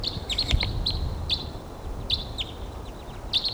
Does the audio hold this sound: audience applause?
no